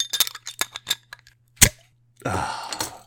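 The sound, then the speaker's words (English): A bottle of Three River Triple beer from Bridge Brew Works in Fayetteville, West Virginia, being opened: a run of light glassy clinks and taps, a single sharp pop as the cap comes off, then a short hissing fizz and pour. No one speaks. “We'll get to all that, but first, here's what I'm drinking today.”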